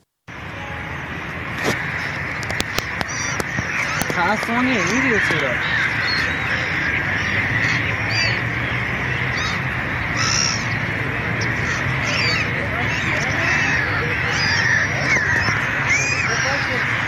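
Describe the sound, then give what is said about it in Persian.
Birds call repeatedly in harsh, cawing bursts as they fly over the dried-up Zayandeh River in Isfahan, Iran, over a steady outdoor background, some calls loud, others softer, while a person briefly speaks. “باز هم ویدیویی از خشکی زاینده رود اصفهان در این فصل سال و پرندگانی که بر فراز رود خشک پرواز میکنن.”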